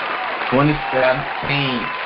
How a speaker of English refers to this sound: So I want to give a shout out and a round of applause to the 2017 WNBA champions, the Minnesota Lynx.